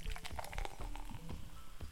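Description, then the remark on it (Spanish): Coca-Cola pours from a can with a steady fizzy splashing and small gurgles for about two seconds with no talking. “Y ahora escuchen cómo la sirvo.”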